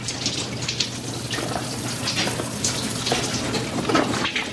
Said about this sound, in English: At a sink in the scullery, Brian holds his battered, bleeding palms under the cold water tap.